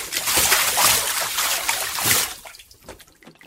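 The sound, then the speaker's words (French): Bathwater sloshes and splashes loudly as big waves are made in a bath, a broad, churning wash for a couple of seconds, then softer trickles and drips as the motion dies down. “We made big waves. Oh là là! On a éclaboussé partout!”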